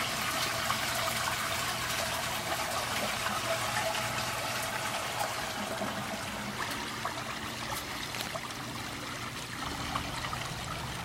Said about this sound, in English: Don't ever flush the toilet till we all go to the loo. Ah, don't ever flush the toilet till we all go to the loo.